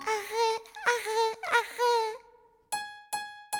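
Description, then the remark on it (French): A voice imitates a crying baby with sustained, wavering wails, then tapers into a held tone and three short, sharp sobbing bursts, fairly loud with no other talk. “Quand Fanny était un bébé, elle faisait comme ça.”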